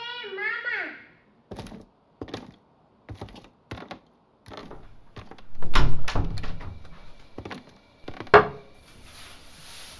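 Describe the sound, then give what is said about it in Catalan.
A door is opened and left open by a mother going to take a shower: a series of sharp clicks and wooden knocks, a longer rustling creak in the middle, and a final crisp latch snap. A brief child's voice sounds at the start. “Deixo la porta oberta per si m'has de dir res.”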